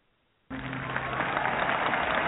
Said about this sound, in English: Where's the applause? Are we a little behind? Can we give him a round of applause, a regular round of applause?